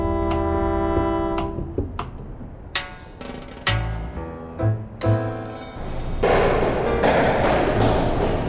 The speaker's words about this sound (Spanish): Después, tres golpes en la puerta.